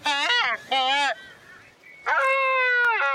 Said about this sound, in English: These birds are cool as fuck. Look at that. This is the albatross sound.